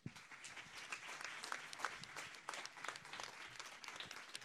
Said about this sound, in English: So please join me in giving her a warm round of applause.